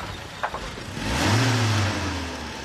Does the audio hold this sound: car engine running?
yes